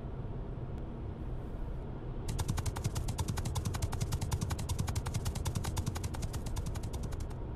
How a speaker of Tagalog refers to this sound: Pre, may lumampas na sa'yo. Mabilis talaga yun. Big bike yun eh.